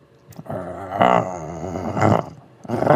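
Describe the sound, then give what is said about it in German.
A person imitates a dog's growl, a low, rough, rumbling voice held for nearly three seconds, swelling louder in a few gritty bursts. “Ich wollte einfach nur noch mal knurren.”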